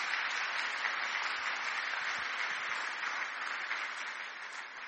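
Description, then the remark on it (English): A crowd applauds steadily, a dense wash of many hands clapping at once that holds at a fairly even level for several seconds before easing slightly near the end, giving one more round of applause to people who did a job that morning. “How about just giving them one more round of applause?”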